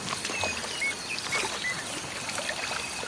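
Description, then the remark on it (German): Muddy water sprays and splashes continuously as an elephant puts its trunk into the mud and shoots the muddy water out, flushing a hole in the ground ever deeper, a steady wet hiss with small bright chirps scattered above it. No voices. “Rüssel rein in den Schlamm und dann... Und damit spült er das Loch immer tiefer aus.”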